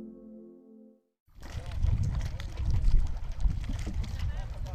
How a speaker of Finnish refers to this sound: Täällä laineet liplattaa ihanasti Sulkavan soutustadionilla ja veneitäkin on jos jonkinmoisia rivissä täällä ja tuolla